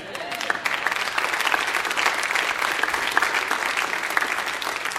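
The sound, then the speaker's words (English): An audience claps steadily for several seconds, a dense, sustained patter of many hands at an even loudness, with no one speaking over it. “Don't get me started with that clapping.”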